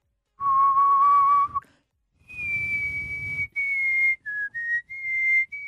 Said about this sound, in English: Yeah, I can whistle, like, pretty nice, but, like, Go on.